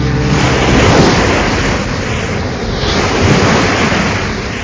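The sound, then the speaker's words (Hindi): Loud, rough stormy sea waves, in which Tarzan is caught in the story, crash and roar continuously, with broad wind-driven noise and two surges of surf swelling around the middle and near the end, no voices present. “Torsion समंदर की तूफानी लहरों में कब तक घिरा रहा?”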